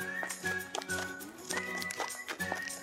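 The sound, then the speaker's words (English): A horse in Eau Claire, its hooves clopping in a steady uneven rhythm while tonal, voice-like whinnying sounds ring out over the steps, fairly loud throughout. “We'll hear a community member and Jack's owner talk about this special horse.”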